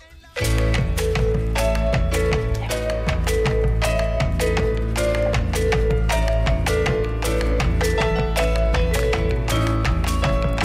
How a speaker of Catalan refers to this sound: Aquesta. Aquesta és la cançó